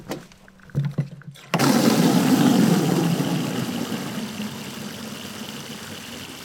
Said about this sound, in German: Unsere 1000 Liter Regentonne sieht aus ein bisschen wie eine Litfaßsäule und hat unten einen Zapfhahn. Und da stellen wir mal die Gießkanne drunter.